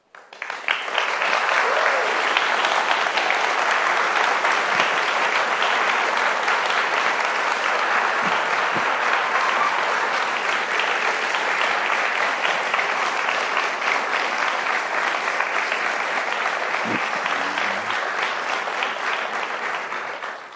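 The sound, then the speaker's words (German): A large audience at the Freie Evangelische Gemeinde Dortmund claps steadily and loudly for about twenty seconds, a dense, even wash of applause that fades slightly at the very end, with no one speaking over it. “Ich habe das Klatschen abgewartet, weil jetzt kommt eure Aufgabe.”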